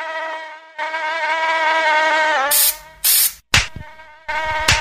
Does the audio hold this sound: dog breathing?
no